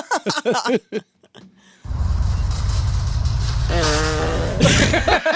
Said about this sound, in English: She rides by in a grocery cart and farts right when she hits the camera.